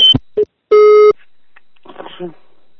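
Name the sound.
telephone busy tone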